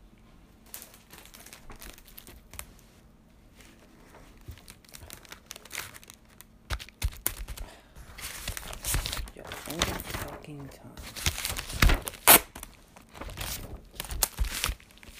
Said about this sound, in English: Oh, fuck. Fucking tape. There we go.